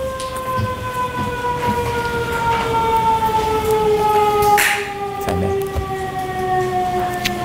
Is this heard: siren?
yes